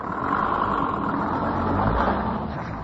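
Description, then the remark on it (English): A rough, steady engine rumble from a ramshackle old truck arriving with food deliveries in a snow-strewn village in the Chernobyl zone, constant throughout, with a broad mechanical drone and no voices. “A ramshackle truck appears, and elderly women come scrambling out into the snow-strewn streets to shop for vegetables, milk, and eggs.”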